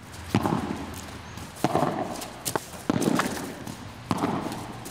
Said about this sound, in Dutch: Hey, maar padel, even teruggaand naar padel, dat komt uit Spanje. Nou, en er zijn dus klachten, hè, want het maakt ook een pleurenserie, moet je horen.